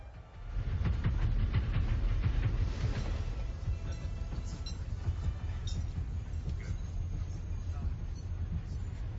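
A train rolls steadily along the rails, its low, heavy rumble filling the scene, with faint clattering knocks in the first few seconds before it settles into a constant roar.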